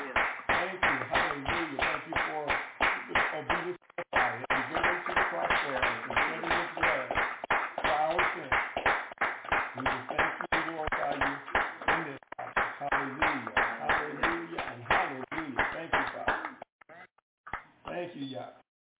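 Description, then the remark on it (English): A crowd claps hands in praise of the Most High Elohim and Messiah: a long, steady stream of sharp claps for about seventeen seconds, loud and dense, with voices mixed in, thinning to a few scattered claps at the end. “Let us give the Most High Elohim and Messiah a hand clap of praise for the blood that Messiah shed for us.”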